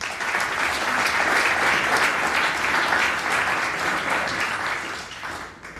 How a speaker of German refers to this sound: Und deswegen freue ich mich ganz, ganz herzlich, ihn hier in Frankenberg begrüßen zu können und auch sicherlich einen mega spannenden Vortrag mit einem riesen Applaus.